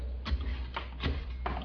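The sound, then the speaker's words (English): A Geiger counter clicking as it takes a radiation reading in an airlock: four sharp, irregular ticks spaced unevenly over a steady low hum, with no voices. “Hand me that Geiger counter, son.”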